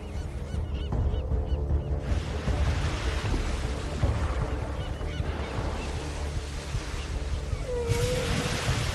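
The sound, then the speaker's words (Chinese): Seagulls call out repeatedly in loud, honking cries over a steady rush of ocean waves and wind as they chase hunting Bryde's whales, the surf constant throughout. “海鸥紧追不舍。”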